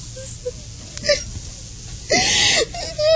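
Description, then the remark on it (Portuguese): A woman cries in a bedroom in short, broken whimpers and catching breaths, ending in a louder, drawn-out sobbing wail, with a faint low hum beneath. “Por que esse choro todo?”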